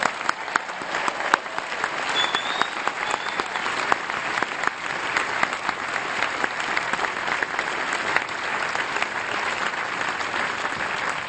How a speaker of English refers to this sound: Let me begin with the first order of business. Let's have a big round of applause for the class of 2014. They've earned it.